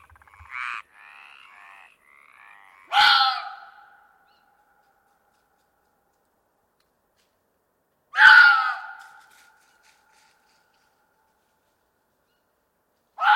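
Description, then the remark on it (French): A fox gives two loud, harsh, screaming calls several seconds apart, each about a second long, with silence between and a third cry just beginning at the end; faint chirps precede the first. “C'est un renard.”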